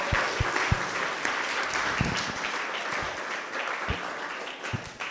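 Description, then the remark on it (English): A crowd applauds steadily for about five seconds for getting the trauma center together, a dense wash of many hands clapping at even loudness, with a few sharper individual claps popping out of the mix. “So we should do a round of applause for that.”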